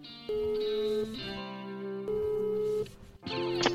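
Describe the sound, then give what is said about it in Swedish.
An outgoing phone call's ringing tone: sustained, buzzy electronic tones that step between a few pitches over several seconds, with no one speaking. “Så nu ringer vi upp”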